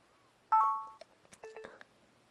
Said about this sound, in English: And that beeping means please wait.